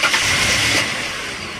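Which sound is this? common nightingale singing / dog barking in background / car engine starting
car engine starting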